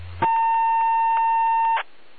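A single long, steady beep made by another person on the radio channel, lasting about a second and a half at a fixed, mid-high pitch, over a thin band-limited hiss. No one speaks.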